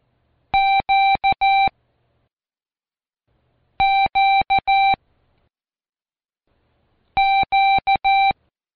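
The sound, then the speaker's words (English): The Morse code letter Q, dah-dah-di-dah, is keyed three times as a steady mid-pitched beeping tone, with a short pause between each repetition and no voices. “Queen, queen, the queen. Listen to these as they're keyed.”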